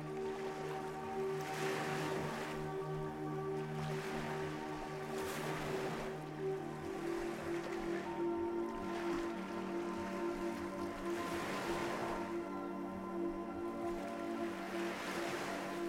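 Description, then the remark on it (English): Ocean waves wash ashore in a steady series of swelling, hissing surges every few seconds, with a constant low drone humming underneath and no voices. “And as you relax more deeply, you look down towards where the waves are washing ashore.”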